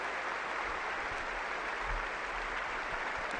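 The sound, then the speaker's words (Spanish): A crowd applauds steadily at a tennis trophy ceremony as officials, including the chair umpire, are greeted one by one; a soft, continuous patter of many hands clapping with no voices standing out. “No les gusta un aplauso ni nada a los ingleses.”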